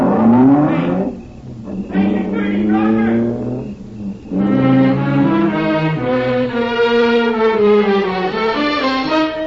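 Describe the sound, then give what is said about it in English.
A car engine revs loudly, its pitch surging and dipping in a few bursts before holding a steady, rising drone as the car pulls away. “When we got away from there, I noticed my throat was dry, my hands were beginning to shake.”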